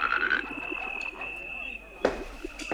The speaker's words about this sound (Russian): «Ква-ква, Иван-царевич!» — говорит лягушка-квакушка.